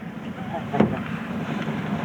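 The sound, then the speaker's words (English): A small aluminum motorboat engine hums steadily as the boat moves along a shoreline, under rushing wind and water noise, with a brief knock partway through and no clear talking. “Most Chippewa now use aluminum motorboats instead of birch bark canoes”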